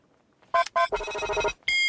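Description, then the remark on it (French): A facial recognition scanner's electronic beep: two short bright tones, a longer sustained buzzy tone, then another tone starting, loud and harmonically rich, with no voices. “Je sais pas si c'est vraiment le bruit de la reconnaissance faciale, mais enfin, je suis pas très sûre.”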